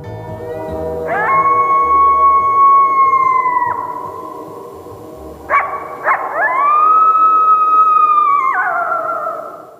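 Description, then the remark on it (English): Coyotes howling in long, wavering, high-pitched calls that rise and hold, two drawn-out howls with a brief burst of yipping between them, fairly loud and clear with no talking. “I just love listening to those howls.”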